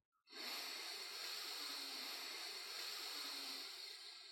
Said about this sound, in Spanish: Vamos a practicar 3 ciclos de respiración para que aprendas el tiempo y duración entre inspiración, contención del aire y expiración. Guíate por el sonido de mi respiración. Tomamos aire por la nariz.